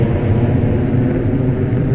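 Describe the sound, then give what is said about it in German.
A steady, loud low roar of an airplane taking off, a dense engine rumble that holds constant with no voices over it. “Und das Flugzeug hebt ab.”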